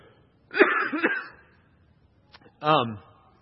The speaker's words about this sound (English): I just have this one thing that I just need to cough in. I'm sorry.